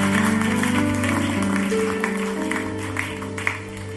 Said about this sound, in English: Can you clap your hands and celebrate this great victory?